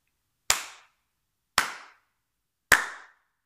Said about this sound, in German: Und er klatschte dreimal in die Hände.